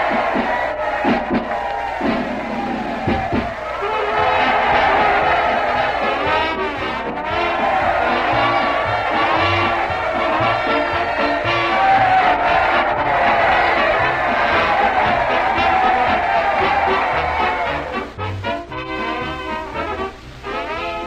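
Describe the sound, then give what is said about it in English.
A large crowd roars and cheers continuously, a dense wash of many voices shouting together, with rhythmic low thumps beneath like marching feet, steady and loud throughout, as the crowd marches on to the town hall to join the voters. “Well, just look at that crowd, Dr. Christian, marching on to the town hall to join the voters.”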